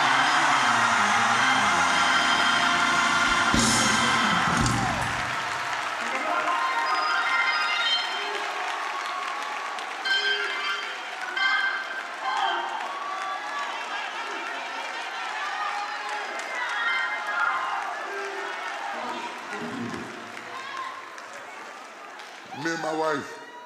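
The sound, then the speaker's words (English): A crowd, urged to make some noise, erupts in loud, sustained cheering and clapping, with shouts and whoops rising over a dense wash of applause that holds steady for over twenty seconds before easing off. “Make some noise in this place.”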